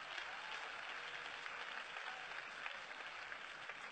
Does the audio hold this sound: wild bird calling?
no